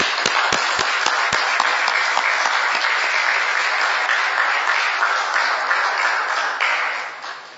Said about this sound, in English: But we appreciate the many hours, the efforts, and in fact the personal dedication put into this work. So could we clap for the Secretary, please?